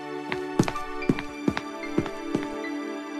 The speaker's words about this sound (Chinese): 嘘，你们听，有人在敲门，会是谁呢？